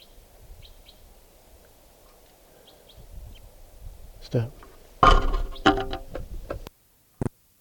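bird, bird calling

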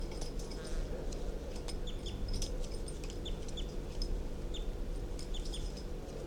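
bird, bird calls

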